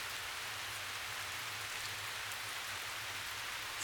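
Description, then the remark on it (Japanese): Steady rain falls continuously, a dense hiss of drops spattering on surfaces with a low rumble underneath, constant in level throughout with no voices. “こちとらみてえな悪党には通用しねえ雨だよ。”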